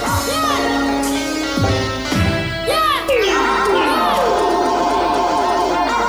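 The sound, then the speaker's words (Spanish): Bright, layered video game music builds to a crescendo, with sweeping pitch glides and sustained tones, while shrill cheering and whooping voices, sounding like a cheerleader, a dog and a cat, rise through the mix, loud and continuous throughout. “Y fíjate que de fondo hay como una animadora y un perro y un gato.”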